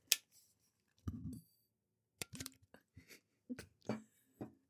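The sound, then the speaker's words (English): The flip-top lid of a new water bottle snaps open and clicks shut several times at uneven intervals, crisp plastic clacks and small rattles against an otherwise quiet background, with no one speaking. “I just like how it flips open.”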